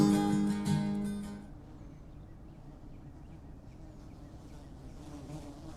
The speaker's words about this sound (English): Oh, the bees or something today. Got bumblebees or carpenter bees or something flying around all over the place.